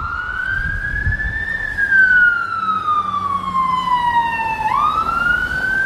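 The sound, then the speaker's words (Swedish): An emergency vehicle siren wails in a slow, continuous tone that climbs, sags gradually, then jumps back up near the end, loud over a low rumble of traffic. “Blåljus, kom ihåg.”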